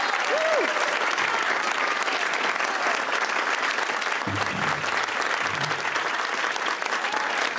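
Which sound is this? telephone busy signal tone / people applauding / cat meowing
people applauding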